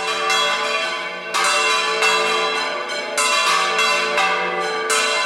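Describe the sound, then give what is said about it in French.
Church bells ring in full peal, overlapping strikes arriving in quick succession with long shimmering tones that blend into a continuous, loud metallic wash, with no voices present. “Un vrai concert de cloches qui tintine à bulles, un peu dans ce genre-là.”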